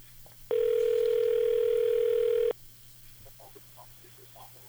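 A single steady telephone ringback tone sounds for about two seconds, loud and buzzy, as an outgoing call is placed on the air, then cuts off, leaving a low hum and faint background noise.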